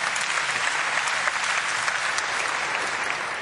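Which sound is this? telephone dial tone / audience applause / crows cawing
audience applause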